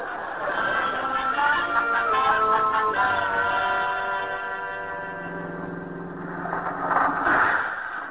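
A bus engine rumbles with a steady, droning hum that shifts slightly in pitch, then a brief hissing burst near the end as the bus pulls up at the curb.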